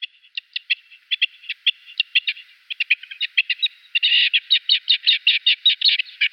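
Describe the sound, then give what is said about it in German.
A rock partridge calls in a long run of rapid, scratchy chattering notes that speed up and grow louder toward the end, heard clearly with no voices. “Genau, es ist das Steinhuhn.”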